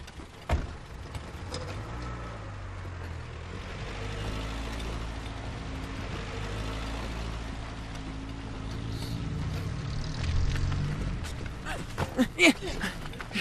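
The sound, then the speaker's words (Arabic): A door creaks slowly and drawn-out for several seconds with a low, wavering groan, then shuts with a few sharp knocks and latch clicks near the end. “أنا غاضب، نتكلم لاحقا. أغلق الباب.”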